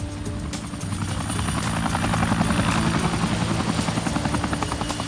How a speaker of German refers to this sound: Ein Geräusch hatte uns geweckt. Ein Helikopter. Ein kleiner blauer Zweisitzer